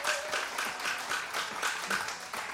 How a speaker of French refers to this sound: Est-ce que votre transistor fait suffisamment de volume pour entendre les applaudissements du public présent ce matin à Alors Chante?